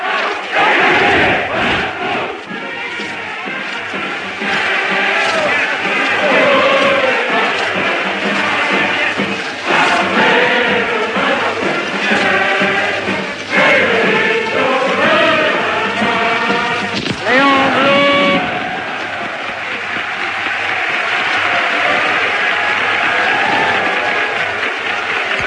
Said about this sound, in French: En mai 1936, la foule chante l'international et acclame Léon Blum, le socialiste Léon Blum.